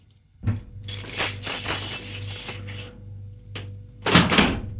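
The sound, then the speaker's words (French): A man rattles and clicks a key in the lock of a bedroom door through a series of metallic jiggles, then a heavier clunk as the door opens, with a low hum underneath and no voices. “Et il a ouvert la porte.”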